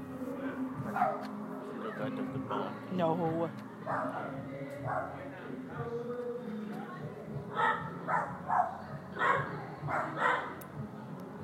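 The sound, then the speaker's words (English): Two neighbouring dogs, one living next door and one living upstairs, bark at each other back and forth in repeated bursts, with yips mixed in, while people talk faintly in the background. “The dog that lives next to us and the dog that lives above us are barking at each other.”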